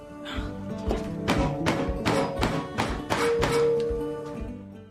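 A stuck jar is banged repeatedly on a kitchen counter to try to open it, about eight solid thumps in a steady rhythm, with a low steady hum and tones in the background.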